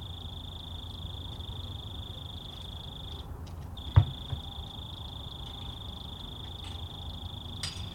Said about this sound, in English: I texted my mom and I said, "Hey, you got this one lonely cricket that's just hanging out right near the microphones with no friends."